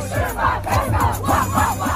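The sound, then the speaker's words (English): A large crowd loudly shouts a song chorus in unison, voices rising and falling in a steady rhythmic chant over a thumping low bass beat. “Played in clubs and parties around the world, people literally screaming these lines out loud.”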